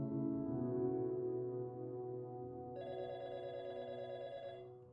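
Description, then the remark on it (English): A telephone rings in the morning with a call from Rosette High School, a steady, buzzing electronic tone, full of harmonics, and a brighter, higher layer joins partway through. The sound is continuous rather than pulsed, and no one speaks. “The following morning, Joanne received a phone call from Rosette High School to ask if Ashley was unwell, as he had not arrived for his lessons that day.”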